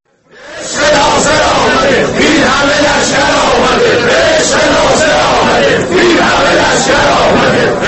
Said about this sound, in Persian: تصاویر منتشر شده در اینترنت همچنین دوستداران ناصر حجازی را در حال شعار دادن در متروی تهران نشان می‌دهند.